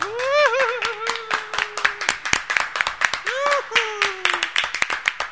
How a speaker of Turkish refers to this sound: Ben kocaman alkışlar